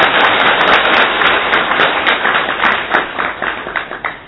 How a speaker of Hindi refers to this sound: तो आप सभी का फिर से बहुत बहुत स्वागत है। और हाँ, जोर से ताली बजाए अपने लिए।